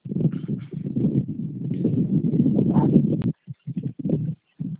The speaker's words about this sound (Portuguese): É porque está parecendo que está vindo um vento, aí eu acho que pode estar atrapalhando. É, tá mesmo, é o ventilador. Eu saí de perto, pode falar. Ah, é o ventilador.